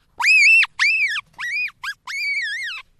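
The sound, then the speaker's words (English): A marmot screams five times in quick succession, each call a loud, shrill, piercing cry that rises and falls in pitch. The fourth is shortest and the last is longest and wavering. No voices. “Ladies and gentlemen, the marmot scream.”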